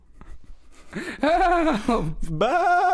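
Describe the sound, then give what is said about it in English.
A person yells like a sheep, voicing two wavering, nasal "baa" cries, the second starting after a brief break and holding steady. “I usually cry ba when I yell. And it sounds just like a sheep”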